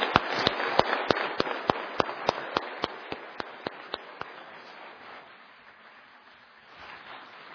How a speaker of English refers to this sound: Just before we sing our final song, would you simply give them a round of applause with me? I think that'd be appropriate.